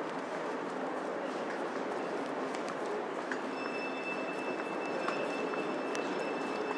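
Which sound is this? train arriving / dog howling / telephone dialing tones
train arriving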